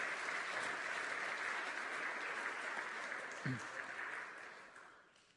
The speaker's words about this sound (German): Applaus nochmal für dich.